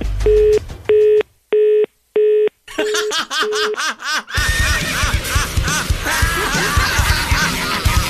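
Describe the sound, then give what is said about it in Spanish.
A telephone line tone after a hang-up: four short, evenly spaced beeps, followed by a burst of laughter and then a loud, busy wash of noise. “ya colgó el teléfono, tu mujer.”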